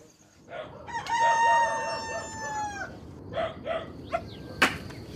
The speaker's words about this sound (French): Le coq chante à 4h15 ce matin.